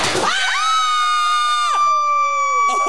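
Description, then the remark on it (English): A confetti popper goes off with one sharp pop after a one-two-three countdown, immediately followed by long, loud, high-pitched screaming that holds for a couple of seconds before breaking off. “Okay, should we pop some confetti?”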